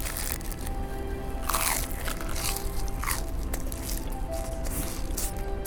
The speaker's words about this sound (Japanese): テイクアウト1本300円こんがりと揚がったハトシ、ちょっといただいてますね。